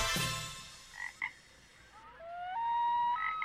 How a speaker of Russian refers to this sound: В чащобе глухой, среди лесов и болот, где хор лягушачий ночами поет